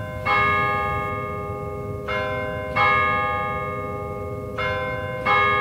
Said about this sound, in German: Die Hitlerglocke, das ist die höchste dieser drei Glocken, die läutet ja alle Viertelstunde über die Rheinebene hinweg.